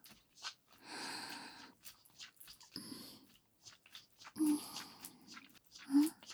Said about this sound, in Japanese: 目を閉じて耳を澄ませてごらん。私の熱い吐息が聞こえるだろう。